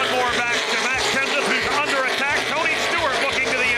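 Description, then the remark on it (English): Stock race cars roar past on a speedway, a loud, continuous engine drone whose pitch swells and dips as the cars sweep by, with a voice faintly underneath. The cars come out of the corner back onto the front straightaway with two laps to go, Kurt Busch leading Jeff Gordon and Ryan Newman. “Out of the corner, back into the front straightaway”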